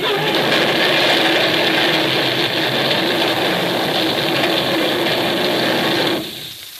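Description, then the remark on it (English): In a Dick Tracy radio drama, a runaway truck loaded with TNT roars at a steady, loud, droning pitch with a rough, buzzing rumble, holding constant for about six seconds before suddenly dropping away. “My truck! She's running away!”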